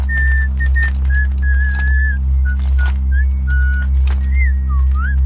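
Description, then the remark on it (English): A young woman whistles a tune of short, wavering notes that rise and dip, clear, as she tucks her hair into her hoodie, over a steady low droning hum, with no talking. “Whistling, the young woman tucks her hair into her hoodie.”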